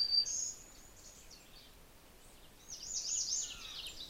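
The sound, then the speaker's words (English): An American redstart sings high, thin, sibilant phrases outdoors in a yard on Good Harbor Hill, by woods with wild elderberry, pin cherry and mountain ash: a short burst at the start, then a longer series of rapid notes near the end, fairly soft. “Ah, that was a redstart. Wee, wee, wee, wee, wee, kind of a loud sound.”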